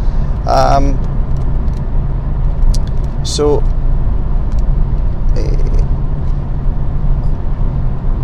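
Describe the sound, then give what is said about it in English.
Steady, loud low rumble of a car's interior while driving, constant road and engine drone throughout, with a few brief higher-pitched tonal bursts cutting in now and then. “And I am very happy with this car.”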